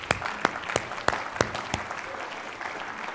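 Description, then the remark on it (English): An audience applauds, with a run of sharp, evenly spaced loud claps standing out over a steady wash of scattered clapping that continues more softly toward the end. “Together with you, you guys can clap.”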